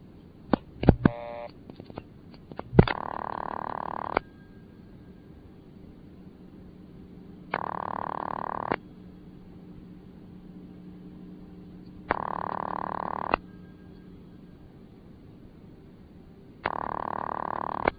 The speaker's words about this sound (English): with the 40-line PBX built by the Leich Electric Company. That's spelled L-E-I-C-H. We believe this was used in a machine shop in Vermont, but we're not quite sure. The museum got it from a junkyard. We'll start off with a ringing number in the PBX.